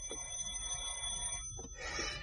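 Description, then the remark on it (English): A doorbell rings with a steady, high metallic tone that holds for over a second, breaks off briefly, then sounds again in a harsher, buzzier burst. No one speaks. “Try the doorbell again.”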